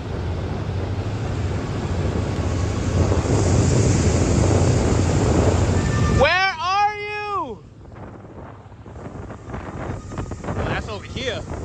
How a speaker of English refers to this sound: actually blew up because of his recordings of these weird sounds that are believed to have been mermaids or sirens. And here's a snippet of what it sounded like, you guys, and just hear how chilling it is.